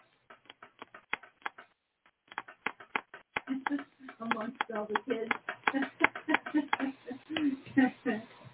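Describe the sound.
A pen clicks over and over, sharp snaps in an uneven rapid rhythm, first on its own and then continuing beneath people talking.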